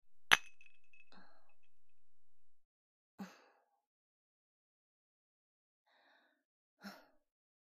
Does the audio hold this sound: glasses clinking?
yes